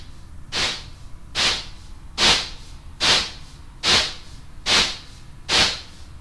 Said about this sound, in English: the weird feedback thingy, which gives us a nice burst of white noise that we can go full car plus strong on if we want to. But right now... I got it doing this. It kind of sounds like, I don't know, my cat sneezing.